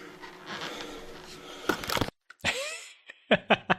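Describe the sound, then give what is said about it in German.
Heavy, breathy panting, a run of ragged exhales and inhales that ends in three quick, sharp gasps in a row. No one speaks. “Wie es hechelt.”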